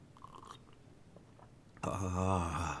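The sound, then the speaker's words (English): A soft, brief noise comes first, then a pause, then a loud slurping sip with a wavering, throaty tone lasting about a second. “Another sip.”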